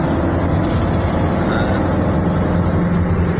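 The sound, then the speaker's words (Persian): A heavy military truck carrying missiles, likely of medium-to-short range, rumbles past, its deep engine drone loud and steady throughout, with no voices. “دوباره یه ماشین دیگه حامل موشک هستش، احتمال موشک هایی با برد متوسط رو به پایین.”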